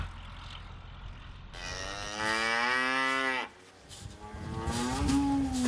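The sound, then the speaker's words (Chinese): Cattle on a farm mooing loudly in two long calls, the first a steady, deep, drawn-out low, the second rising in pitch as it ends, over a soft low rumble with no talking. After floodwaters receded and turned the topsoil to mud, Geisler has to walk or drive a tractor to feed them. “洪水退去后，很多表层土壤变成了泥浆，盖斯勒只能走过去，或是开着拖拉机去喂牛。”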